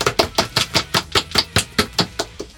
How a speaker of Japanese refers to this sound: 先生、 はい、 拍手フライングしたでしょ。 フライングしました。 何回目ですかこれ。 いや9回目。